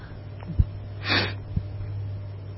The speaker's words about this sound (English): I'm sorry for my sniffing. I don't know if you can hear it, but this thing sounds pretty loud, so I'll make a concerted effort not to sniff.